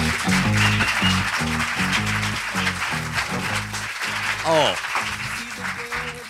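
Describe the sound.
Steady applause from a show audience runs throughout, a dense crackling wash of clapping that stays loud while a voice speaks over it and another exclaims briefly.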